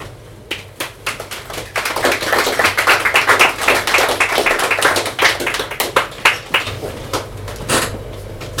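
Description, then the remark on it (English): A crowd claps in a dense, steady patter of sharp hand claps that swells in the middle, then thins to scattered individual claps before fading out. “Chairman's clap.”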